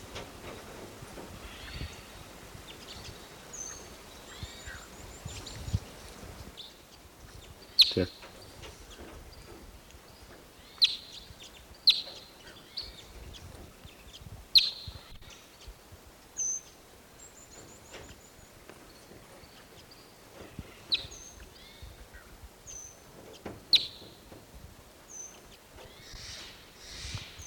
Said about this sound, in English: The red male is sitting out on a branch, not calling. And the other birds are foraging in this Apache pine. But they're not cracking the cones much.